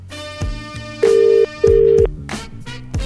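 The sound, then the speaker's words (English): Two steady ringback tones of an outgoing phone call to a DJ in New York City at 4 a.m., each burst about half a second, sounding clearly over a thumping music track with no one speaking. “All right, it's ringing.”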